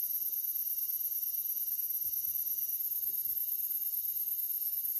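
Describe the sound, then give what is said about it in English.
A steady, dense chorus of crickets chirps continuously in high-pitched trills, filling the background evenly with a faint low rumble underneath and no voices. “Listen to the constant sound of the crickets, but expand your awareness into the sound of the undertones.”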